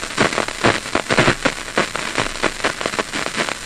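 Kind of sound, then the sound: rat brain cells firing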